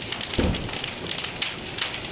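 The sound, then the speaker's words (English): Dense, steady pattering like rain on a surface, mixed with sharp crackling pops that resemble fire, continuous throughout with a low thump near the start and no voices. “the drops started getting louder and louder, and I started thinking that they didn't really sound like raindrops anymore”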